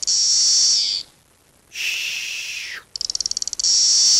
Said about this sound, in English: In any case, here are the 3 species. This is number 1. Magicicada cassini makes the white noise sound.